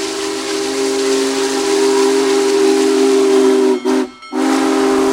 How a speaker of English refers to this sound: What was that sound? The sound of the historic steam-powered big boy locomotive arriving in Ripley yesterday afternoon that attracted so many to this tiny Chautauqua County town that's located less than 4 miles from the New York-Pennsylvania border.